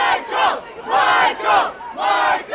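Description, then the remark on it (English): A large crowd gathered outside a hospital chants a singer's name in unison, loud, rhythmic bursts of many voices rising and falling about four times, with short gaps between each shouted phrase, as TV news helicopters circle. “a huge crowd gathered outside, singing … hits and chanting his name”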